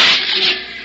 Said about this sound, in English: that's the sound of a drop of water on the body of your car after it's been exposed to the sun's heat for a few hours.